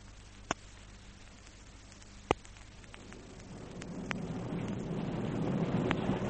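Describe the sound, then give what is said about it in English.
Stormy wind and rain roar aboard a ship at sea, swelling steadily louder over a low mechanical drone, with a few sharp knocks and creaks cracking through. “Don't you think I've enough to do in the engine room, Skipper, without having to fight my way up to the bridge in weather like this?”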